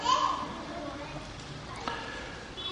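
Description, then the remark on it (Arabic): Children's voices chatter and call out upstairs, a lively, slightly muffled jumble of play sounds with occasional brief thumps. “معلش اطلع شوف الأولاد فوق ما يسببون إشكال ولا حد يقع ولا حد.”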